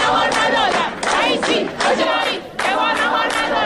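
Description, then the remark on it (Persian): Male and female university students in Iran chant a protest slogan, 'Raisi, where are you? They didn't give us lunch,' after being refused food at a self-service cafeteria; loud unison voices shouting in rhythmic phrases with brief breaths between each repetition. “بعد می‌خواستن غذاهاشون رو بیارن بیرون و کنار هم غذا بخورن که بازم اصلا بهشون غذا ندادن و اونا هم خیلی سریع با یه تجمع و این شعار واکنش نشون دادن.”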